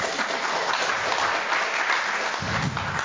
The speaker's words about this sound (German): Die beiden, ja, sehr gerne Applaus.